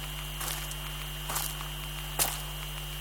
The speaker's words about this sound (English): Oh, I love the sound of rustling leaves in the autumn.